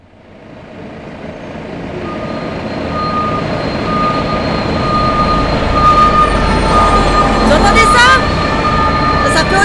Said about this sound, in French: Infernal. On démolit l'hôtel d'en face, là. Un peu plus loin, au carrefour. Et ça fait 2 ans qu'on construit une station de métro. Alors la circulation est déviée et passe sous mes fenêtres.